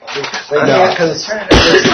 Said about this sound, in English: Excuse me. And those listening on tape, excuse my cough.